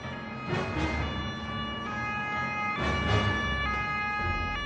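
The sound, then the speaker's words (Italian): A carabinieri police car siren blares loudly and steadily over rumbling vehicle noise at 1:30 a.m. on the Lungomare Duilio seafront in Ostia, with two rushing surges of sound as cars speed past while the carabinieri car chases a speeding Alfa 2000 driving the wrong way. “La gazzella dei carabinieri vede passare l'Alfa 2000 a tutta velocità e contromano e inizia l'inseguimento.”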